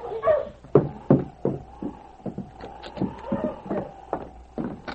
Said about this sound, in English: The great dog seemed puzzled. He sniffed around the cabin but showed no signs of picking up the scent.